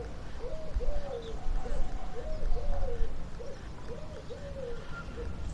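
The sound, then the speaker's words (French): Turtle doves coo in soft, repeating phrases, a steady rhythmic purring call in the countryside in summer, set against a low rumbling outdoor background. “L'été à la campagne, c'est du bonheur. Quelle vie! Tourterelles, hirondelles, abeilles.”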